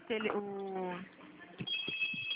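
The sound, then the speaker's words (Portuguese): A telephone rings with a steady, buzzy tone lasting about a second, followed by a thin, high electronic tone. Faint bits of voice and movement come through in the background. “Tá tocando o telefone aqui, eu não consegui te ouvir.”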